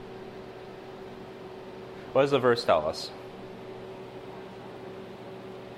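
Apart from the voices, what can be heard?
air conditioner running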